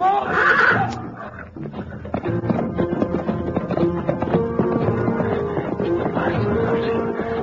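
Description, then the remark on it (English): A horse whinnies loudly and shrilly right at the start, then frantic hoof clatter and rapid tapping fill the rest, with another strained neigh rising near the end, agitated, as the horse panics while lions chase it. “Get the horse away. They're after him.”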